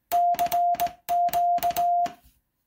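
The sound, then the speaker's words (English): An early Russian telegraph straight key, heavier and cruder in construction, found at a flea market in New Orleans, taps out Morse code. Each sharp click is paired with a steady mid-pitched beep of short and long lengths, sent in two quick bursts with no talking. “These are straight keys.”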